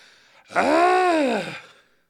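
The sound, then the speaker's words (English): A person vocally imitates the whiny, hungry sound their dog makes instead of barking: one drawn-out, nasal, arching moan lasting about a second, rising then falling in pitch, loud and alone with no talk over it. “He doesn't really bark. He goes, yeah, I don't know, whiny, hungry dog sound.”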